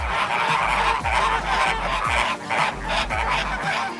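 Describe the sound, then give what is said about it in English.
A dense flock of flamingos at a bird park gabbles continuously, overlapping goofy honking calls forming a loud, nasal chatter with no pauses, filling the whole stretch without any talking. “I made two trips to Bird Paradise, and the first time I heard the flamingos, I suddenly understood where the phrase bird brain comes from.”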